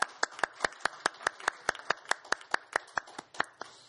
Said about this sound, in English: Well, I think you just deserve a round of applause for all your work. Thanks.